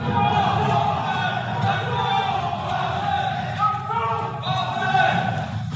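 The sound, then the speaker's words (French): Several people shout over one another in the Occitanie regional council chamber in France during a deliberation, after eight Action française militants entered the building to unfurl a banner; a dense, continuous clamor of raised voices that stays loud for the whole stretch, with a few sharper cries standing out. “Vous entendez les cris dans la salle.”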